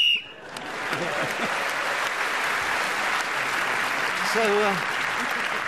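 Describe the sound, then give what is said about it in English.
A short, shrill referee's whistle blast marking the end of time sounds right at the start, then gives way to sustained applause from an audience, with some faint voices and laughter mixed into the clapping. “speaking as the whistle went”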